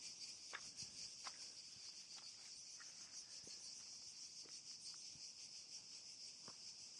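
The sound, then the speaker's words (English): A dense chorus of cicadas drones steadily outdoors in Athens, Greece, a shrill high buzz with a faint pulsing throb, while a few soft taps and knocks sound faintly underneath. No one speaks. “The cicadas. The sound of the cicadas.”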